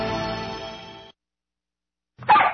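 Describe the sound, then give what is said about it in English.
A small dog of the house lets out a single short, high-pitched bark after a pause of silence, loud, following a brief stretch of sustained tonal sound. “I guess I better let the dog in. Like the small dog that rules the house.”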